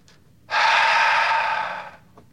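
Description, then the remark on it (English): A single long, deep breath taken audibly by a speaker as a demonstration, a broad airy rush lasting about a second and a half before fading out, with no talking. “And he answered through breathing.”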